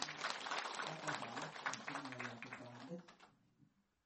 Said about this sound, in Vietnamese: một tràng pháo tay.